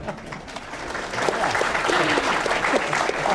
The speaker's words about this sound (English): I want to give a big cheer for these candidates making it through that lightning round. Well done. Well done.